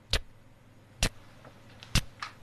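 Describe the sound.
Sharp, crisp tick sounds made with the mouth to imitate a ticking clock: three loud clicks spaced about a second apart, with a few fainter clicks between them, with no talking.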